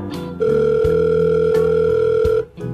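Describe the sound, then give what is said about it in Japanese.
A steady telephone dial tone hums loudly for about two seconds, set over a low background bed with a few sharp clicks, then cuts off abruptly as if the line is hung up. “今電車乗りました。また電話します。ガチャ。”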